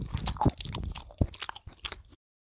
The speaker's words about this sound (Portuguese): Olhou em volta de si e descobriu um velho sapato na moita. Ela ficou mastigando aquele sapato por bastante tempo. Fazia o cadarço e fazia cócegas. E o couro tinha gosto de graxa.